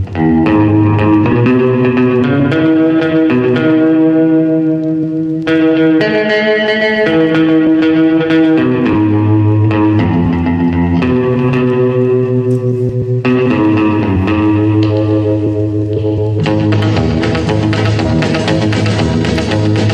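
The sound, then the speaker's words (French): Instrumental rock music plays loud and steady, led by a tremolo electric guitar with a wobbling, pulsing tone, springy reverb and echo, over bass and drums, with no vocals. “La petite guitare trémolo, le petit réverb à ressort.”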